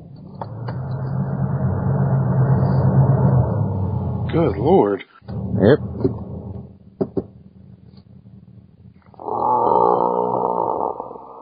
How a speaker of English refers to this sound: I got to start my car, so if it gets loud, it's me, but I'm freezing.